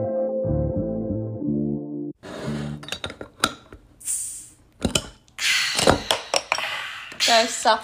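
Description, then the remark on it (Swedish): A brief musical jingle gives way to glasses clinking together in a toast, sharp bright chinks and ringing tones scattered among busy clatter and background chatter. “Men jag tänker att vi skålar ut den här delen och gör oss redo för någonting lite smaskigare. Ja, skål.”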